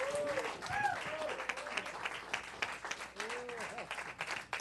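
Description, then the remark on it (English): An audience breaks into sustained applause in praise of the Lord, dense steady clapping lasting several seconds, with scattered voices calling out and brief rising cheers mixed into the crowd noise. “Could you give the Lord a praise?”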